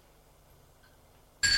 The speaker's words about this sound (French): l'on sonne à sa porte. Il va ouvrir.